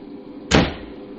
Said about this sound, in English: All right. Now, shut the door.